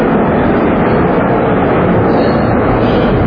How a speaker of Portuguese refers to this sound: Um avião aí, atrapalhando a gente, está amarrado. Se amarra o avião é perigoso, né? Cai lá de cima.